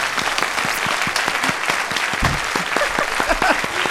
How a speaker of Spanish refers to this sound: un aplauso para ella, bienvenida.